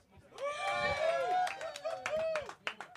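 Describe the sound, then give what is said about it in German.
A voice whoops and cheers in rising and falling tones over scattered sharp hand claps, imitating audience applause for about three seconds. “Ja, klar, Alter. Applaus!”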